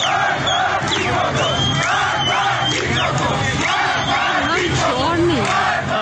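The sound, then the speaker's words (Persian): A large crowd of protesters chants and shouts together in the street, voices overlapping in a dense, loud, continuous roar with rising yells cutting through throughout. “خیابان بعضی از شهرها هم شاهد تجمع معترضان بود، از جمله قهدلیجان در استان اصفهان، بندرعباس هشتم، بندرعباس، سرندج و کوهدشت لرستان.”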